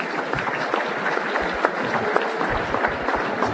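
Steady applause from a crowd for a player being honored at a team awards ceremony, many hands clapping at once in a dense, continuous patter that stays fairly even in loudness for a few seconds.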